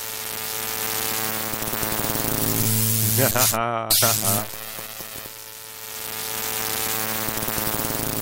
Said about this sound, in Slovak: Ono to znie, vieš, ako keď si u babky na záhrade. Ano. A má tam také ten, to fialové svetielko, do ktorého prichádzajú mušky. Aha. A komáre s celou radosťou, že tam je môj domov. Aha. A zrazu príde iba zvuk a už je po muške.